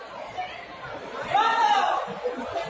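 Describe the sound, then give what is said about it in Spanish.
Street crowd chatter with overlapping voices, and midway a loud, sustained shout rises above the murmur, like a vendor or passer-by calling out before the babble continues. “¿Has visto que ahora salen, se oyen gritos?”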